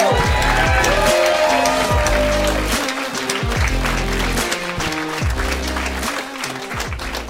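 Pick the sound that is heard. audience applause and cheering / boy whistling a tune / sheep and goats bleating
audience applause and cheering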